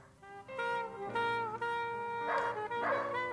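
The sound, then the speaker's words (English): A dog barks and yips in a fast, excited string of calls, the yelps running almost continuously with a couple of sharper, louder barks near the end. “Madam, you can't bring that dog in here. Dogs aren't allowed.”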